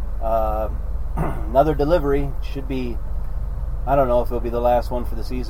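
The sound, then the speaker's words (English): A 44 horsepower Westerbeke diesel engine motoring a sailboat along with a steady, low droning rumble that runs unbroken under a man talking. “And the motor is going. I don't know if you can hear the 44 horsepower Westerbeek that's moving this boat along right now.”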